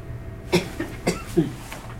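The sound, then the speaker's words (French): A patient coughs several times in quick succession, harsh, chesty bursts that sound wet and congested with phlegm, moderately loud, with no talking over them. “Et c'est depuis ce soir que vous toussez comme ça, que vous avez ces glaires ?”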